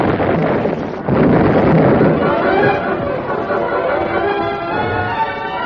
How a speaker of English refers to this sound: Premature explosion at the gap threw the rustlers into a panic.